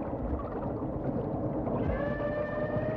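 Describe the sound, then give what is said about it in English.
Underwater calls of a whale about a mile and a half away, recorded on a hydrophone over a steady, rumbling hiss: a long tonal moan with bright harmonics rises clearly in the final second, loud against the constant water noise, with no voices. “he was a mile and a half away, we were still getting the calls loud and clear on the hydrophone, which is really unusual.”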